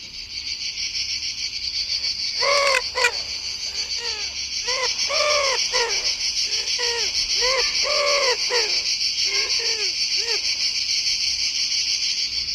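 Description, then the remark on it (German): A wood pigeon coos in a rhythmic run of soft, hooting phrases, repeated for several seconds over a steady, loud background of chirping crickets. “Und die häufigste, so als Brutvogel, ist nicht etwa die Stadttaube, sondern die Ringeltaube.”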